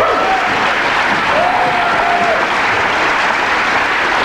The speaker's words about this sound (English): First of all, I should introduce you the players, and you can clap as they come on.